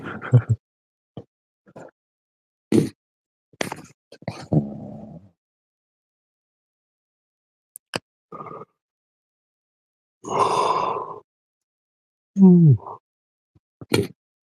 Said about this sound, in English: I apologize for yawning so much. Getting real tired. Getting real sleepy.